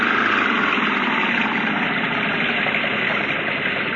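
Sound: car engine revving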